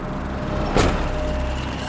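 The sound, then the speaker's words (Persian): A car engine with a failing water pump runs with a steady rumble, and a brief sharper whoosh rises and fades about halfway through. No one speaks. “به صدا افتاده ها؟ آره. از پمپ آب بشه.”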